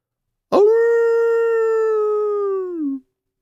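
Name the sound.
wolf howling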